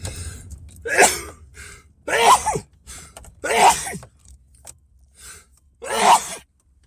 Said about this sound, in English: Yes, it makes you sneeze. At least it does for me.